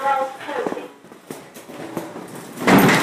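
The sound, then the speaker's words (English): A fire door in England being opened, with a few clunks and knocks of handling and footsteps, then a louder rushing sweep near the end, over a faint muffled voice at the start. “Doors opening.”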